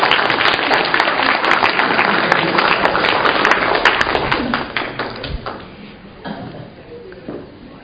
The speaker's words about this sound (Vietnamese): Chúng ta cho một tràng pháo tay mời.